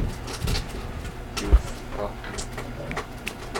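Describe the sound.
A few short, squeaky eagle cries ring out over a muffled, noisy background, with faint voices murmuring underneath.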